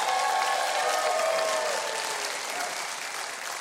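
The studio audience of the TV show Huckabee applauds a band, a steady burst of dense clapping spread across a bright hiss that holds loud throughout with a few faint whistles or cheers mixed in.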